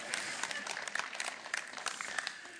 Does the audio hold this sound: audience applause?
yes